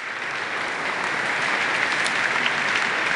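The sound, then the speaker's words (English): Steady audience applause fills the whole stretch, a dense wash of many hands clapping at once, fairly loud and even throughout with no voices over it, applauding a software demo of Hyper-V on the client. “I knew she was going to get applause for that.”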